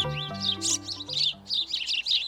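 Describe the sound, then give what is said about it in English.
A house sparrow chirps busily in quick, repeated bursts, bright, with a soft, steady low hum or musical tone underneath. “The house sparrow, introduced to North America from Europe in the mid-1800s, has spread across the continent and can be seen grabbing French fries off the sidewalk from coast to coast.”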